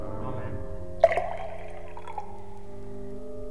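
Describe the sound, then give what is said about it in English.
Salt is tipped into water with one quick splash and a short trickle, mixing salt and water during a spoken blessing, then the liquid settles while a steady low hum and faint voices carry on behind. “May this mixing of salt and water be done in the name of the Father, and of the Son, and of the Holy Spirit.”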